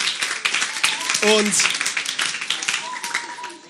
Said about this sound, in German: Ja, also Riesenkompliment an euch. Gebt euch mal selber einen fetten Applaus. Ihr seid der Hammer.